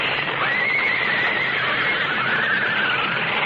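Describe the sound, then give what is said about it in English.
Coach horses neigh and whinny in alarm as the lead horse panics coming off a bridge and pulls the rig to the right, shrill wavering cries rising and falling over a dense, noisy background, loud with no pause throughout. “Coming off the bridge, the lead horse panicked, pulling the whole rig to the right, so that what was coming was inevitable.”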